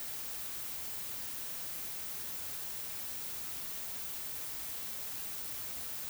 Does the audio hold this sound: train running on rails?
no